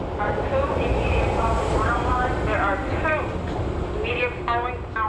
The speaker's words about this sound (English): Each train car that passes looks fuller than the last. In their rush to get home, commuters smush themselves into the train cars before the doors warn them to get out of the way. Doors closing.